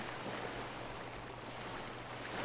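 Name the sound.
sea waves and water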